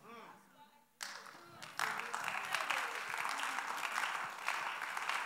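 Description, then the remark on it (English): A brief spoken voice at the start gives way to a crowd applauding during a sermon, a dense, steady wash of many hands clapping that swells and holds strong to the end. “The clapping is coming down.”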